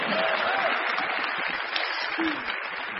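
A crowd claps steadily in a dense, continuous wash of applause that holds at an even level for about three seconds, with a faint murmur of voices underneath.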